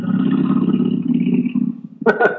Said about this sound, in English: Hang on, a motorcycle is driving past my house. Nice.